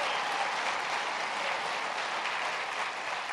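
Steady, loud applause from an audience, a dense crackle of many hands clapping at once that holds at an even level for a few seconds with no voices over it.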